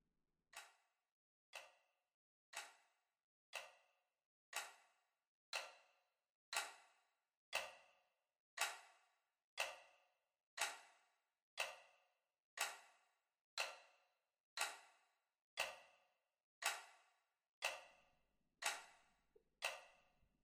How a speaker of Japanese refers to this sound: 時計の音が聞こえてきた？この音は楽園への扉。この音が聞こえてくるということは、あなたは楽園の世界の入り口にいるの。